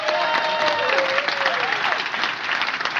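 Steady audience applause fills the whole stretch, a dense wash of many hands clapping at an even loudness, with faint crowd voices and a brief whistle-like tone mixed in.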